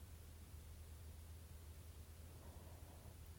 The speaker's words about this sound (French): Les instructions te demandent d'entrer en contact avec le bruit blanc, un son très délicat qui réagit à tout ce qui l'entoure. Ça, c'est le bruit blanc.